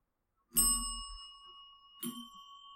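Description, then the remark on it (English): A bell is struck sharply twice by smacking down on top of it, about a second and a half apart, each hit giving a bright metallic ding that rings on and overlaps the next. Clear, with no voices. “You can also just smack it down on top of the bell and make a”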